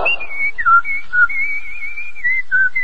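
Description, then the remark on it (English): A man whistles a bright, bouncy melody, the clear tone gliding up and down between short held notes, steady with no talking. “No wonder he's whistling.”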